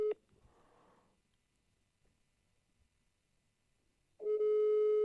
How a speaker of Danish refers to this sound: Hvad er det ham, der ringer nu? Tager du lige på speakerphone? Ja, det kan jeg lige gøre.